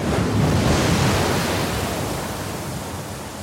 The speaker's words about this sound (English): Then there's a shout. Out to sea is a wall of water, a freak wave heading their way.